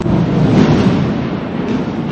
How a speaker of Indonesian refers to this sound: Sebelum kami lanjut, kita dengar bersama bahwa petir ini juga bagian daripada rahmat Allah Ta'ala dan bukti keagungan dari kuasa Allah Ta'ala.